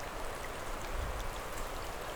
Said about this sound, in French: sous quelques clapotis d'eau de fonte, orchestrées par le chant des oiseaux.